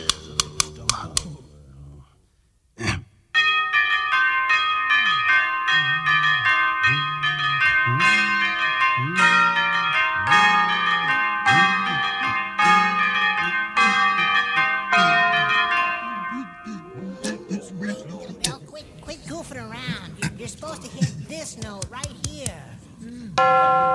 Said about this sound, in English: See, and I think I would have rather had "O Christmas Tree" in place of that one, because the bells is like one of my favorites of the whole special.